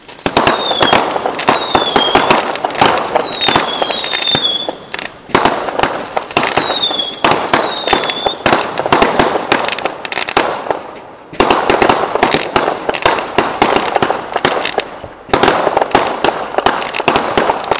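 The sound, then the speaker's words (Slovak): A dense, nonstop barrage of New Year's midnight fireworks in Nitra, on Svätoplukovo Square: rapid loud bangs and crackling pops, with several shrill whistles sliding downward in pitch, and a brief lull partway through before the booming resumes. “O polnoci je pre vás pripravený ohňostroj a krátko po polnoci bude novoročný príhovor pána primátora.”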